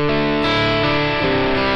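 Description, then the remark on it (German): A loud, distorted electric guitar plays sustained chords with a thick, washy spring reverb placed before the amp, its mix turned up, smearing the notes together, filling the whole clip with no voices. “Das ist jetzt auch Hall vorm Amp. Ich drehe mal den Mix ein bisschen auf, um es deutlicher zu machen.”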